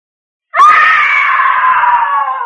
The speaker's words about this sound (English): What? What is it? A woman screamed.